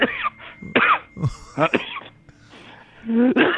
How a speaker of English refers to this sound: Now, why am I coughing from the vape?